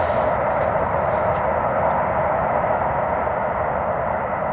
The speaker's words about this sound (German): Boah, ist schon echt laut, der Zugverkehr.